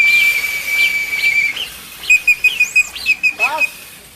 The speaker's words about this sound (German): Habt ihr die Tröte? Weil es muss ja illegal klingen.